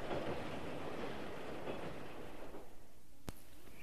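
A train rumbles along the rails with a steady, dense roar that fades slightly toward the end, followed by a sharp, brief click or squeal. No one speaks.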